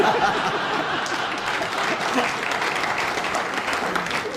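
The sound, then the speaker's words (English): Steady audience applause for a remark about the Fens, a dense crackle of many hands clapping at a fairly even loudness throughout, with a few scattered chuckles mixed in and no clear speech. “You live in the Fens and you applaud that remark.”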